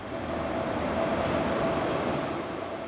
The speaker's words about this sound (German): Dann rollt der Zug langsam in den Bahnhof ein, einige Minuten zu früh, nach 9 Stunden Fahrt.